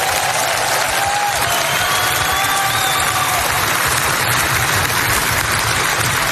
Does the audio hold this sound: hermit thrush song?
no